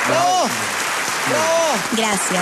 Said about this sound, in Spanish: Es que la gente está todavía aplaudiendo. Gracias. Están enloquecidos.